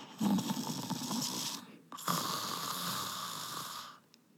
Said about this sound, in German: Stille. Nur aus der anderen Zimmerecke kam leises Schnarchen